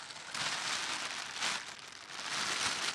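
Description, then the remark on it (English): Paper crinkles and rustles steadily as a package delivered by messenger and holding blank paper is unwrapped, a continuous crackling that swells in a few brief surges, with no one speaking. “Let's find out. I never even had a chance to open it.”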